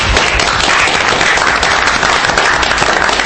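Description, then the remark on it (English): People at a meeting applaud steadily, a dense, continuous patter of many hands clapping at once, loud, holding level throughout without any talking over it. “I do think a round of applause is due to Nathan for shepherding this process.”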